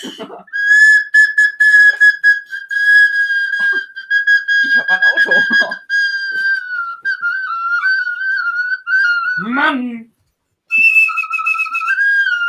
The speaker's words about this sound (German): Dann kommt also so ein komisches Piepen.